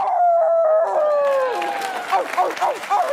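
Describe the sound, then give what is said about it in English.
Actress Frances McDormand lets out a long, loud wolf-like howl on stage at the Oscars at Union Station after Nomadland won Best Picture, slowly sliding downward in pitch, then breaking off as a crowd erupts in cheering and applause. “It was the howl heard round Union Station.”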